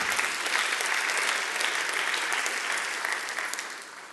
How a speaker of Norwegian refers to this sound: Ja, dere kan gjerne klappe for det.